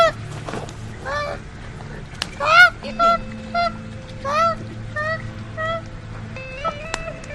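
A koala in Australia, its body almost completely burned in bushfires, cries out in pain as its rescuer pours water on it. It gives a series of harsh, wavering wails, about eight bursts of varying length, loud and high-pitched over a low steady background rumble.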